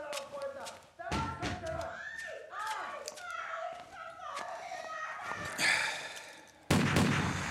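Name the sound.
gunshots fired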